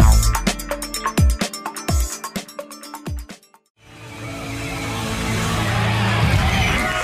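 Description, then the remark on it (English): A music track with punchy, rhythmic percussion cuts off abruptly, followed by a steady, dense wash of fake applause dubbed onto the record, holding fairly loud for the last few seconds. “I've forgotten there was fake applause.”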